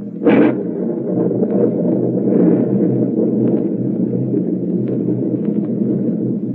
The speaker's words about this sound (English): This storm is rising in intensity every minute.